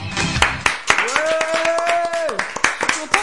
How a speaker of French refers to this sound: Elle est avec nous aujourd'hui dans les studios de Radio Plus. C'est la marraine de l'émission. Je vous demande de réserver un tonnerre d'applaudissements pour